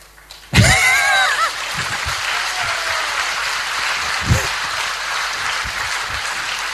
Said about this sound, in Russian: Я не знаю, чего вы хлопаете. Чему?